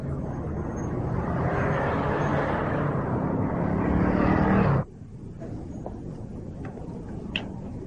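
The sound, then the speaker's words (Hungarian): A car roars past on the road, its loud engine and road noise swelling for several seconds before cutting off abruptly, leaving quieter outdoor background with faint sounds. “Téged üt el az autó, én befejeztem, ah.”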